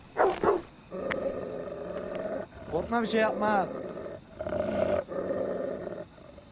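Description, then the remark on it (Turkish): A dog growls low and steadily, with a couple of sharp barks near the start, while a man speaks briefly over the rumbling snarl. “Köpekten ürkerek panikle tüfeğini doğrulttu.”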